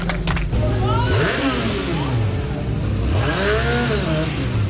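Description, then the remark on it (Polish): Racing motorcycle engines scream around the Tor Poznań asphalt track during the Polish motorcycle road racing championship, their pitch climbing and dropping repeatedly as bikes rev, shift and pass by. The roar is loud and continuous throughout. “Skoro żużel, skoro o motocyklach, to teraz tor żużlowy zmienimy na tor asfaltowy i przeniesiemy się na tor Poznań, gdzie przez ten weekend rozgrywane były wyścigowe motocyklowe Mistrzostwa Polski.”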